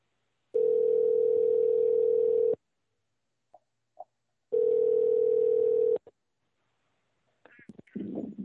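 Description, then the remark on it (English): A steady telephone dial tone sounds twice, each lasting a couple of seconds, with two short keypad beeps between them, followed by brief clicks and muffled noise of a call connecting, as a radio show host phones a guest on air. “And Chuck is going to get Sherwood on the phone right about now.”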